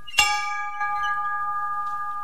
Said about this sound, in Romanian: Este clopotul care anunța recreația copiilor? Da.